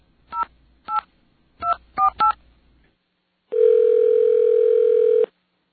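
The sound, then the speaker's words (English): Someone dials a number to reach the Bell Atlantic caller ID test line, with caller ID blocked. Five short touch-tone beeps sound in an uneven rhythm, each a crisp two-note chirp. After a pause comes a long, steady, buzzy telephone tone lasting almost two seconds. No one speaks. “I'm going to call that same number and see if the Bell Atlantic caller ID test works.”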